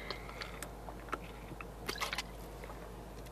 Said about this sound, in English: Excuse me. I'm going to take a sip of water, so hope you guys don't mind. Just give me one sec.